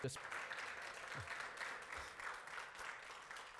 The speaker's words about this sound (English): Come on, we could do better than that. Give God a hand clap of praise now.